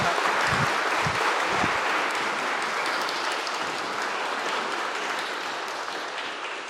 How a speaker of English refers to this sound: And I think we should give the choir a special clap. Stand up. Stand up. Stand up.